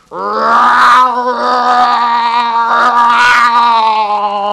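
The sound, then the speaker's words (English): A bear growls loudly and steadily for several seconds, a wavering, tonal snarl with a raspy edge that dips briefly twice before swelling again, with no talking. “The bear growled menacingly.”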